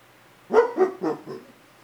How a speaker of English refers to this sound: An occasional distant dog.